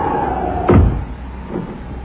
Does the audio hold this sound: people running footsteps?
no